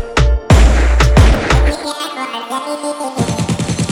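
A burst of four heavy, booming gunshots rings out in quick succession over a music backing, loud and close, before the track carries on with a pulsing beat.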